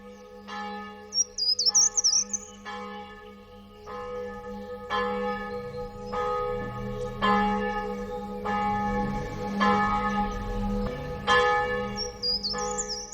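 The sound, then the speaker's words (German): Church bells peal as people walk to a church service on a sunny day, in a steady overlapping ring, strikes arriving roughly every second with long sustained hum between them, while birds chirp high and brief at the start and end. “Sie hören schon die Glocken läuten.”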